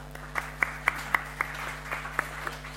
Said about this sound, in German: Mal einen Applaus an der Technik. Das ist nicht immer so einfach da hinten.